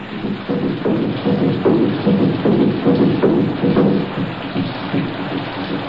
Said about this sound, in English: Sound drum for marriage ceremony.